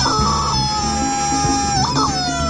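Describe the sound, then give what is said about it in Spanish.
A loud rooster crow stretches across the whole moment, its drawn-out call bending in pitch near the end, with chicken clucking mixed underneath. No voices. “Muy bien, pollo, fuerte grito de combate, pollito.”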